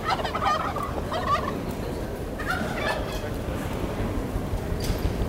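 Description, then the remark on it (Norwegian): A turkey gobbles in quick, warbling bursts, with a couple of rapid rattling calls, over a steady low rumble of background noise. “Flyet til Kalle Kalkun er forsinket frem til nyttår.”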